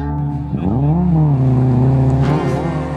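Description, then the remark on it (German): A vehicle engine roars at speed, taking a curve at 60, its pitch climbing and bending as it revs through the turn, loud and continuous with no voices. “Der Lader schmierte mit 60 um die nächste Kurve.”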